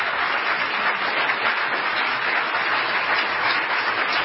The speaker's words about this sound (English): Ladies and gentlemen, again, a round of applause for our presenters this evening, Dinesh D'Souza and Dan Barker.